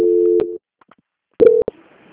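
A steady, low-pitched telephone line tone sounds for about half a second, falls silent, then returns in a shorter burst cut off by sharp clicks, leaving a faint line hiss, as a call is transferred to the quality department; the phone does not ring but connects directly.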